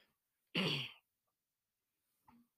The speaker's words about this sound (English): Sorry if you keep hearing me cough. I'm not sick, but it's early in the morning, so I feel like I'm sick.